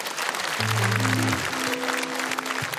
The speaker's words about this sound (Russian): Под ваши аплодисменты.